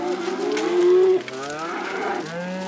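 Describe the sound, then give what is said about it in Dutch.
Cows on a farm on the prairie in the Wild West: a cow lets out a long, loud moo that holds steady before breaking off, followed by a second lower, drawn-out moo, with no talking. “Dit is Maggie, zegt Pearl tegen de andere koeien.”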